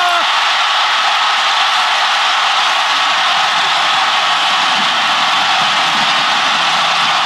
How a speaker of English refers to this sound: That run ended up providing the winning margin for Seattle, and it became known as the Beastquake. Because the jumping and the screaming of the crowd in Seattle was so intense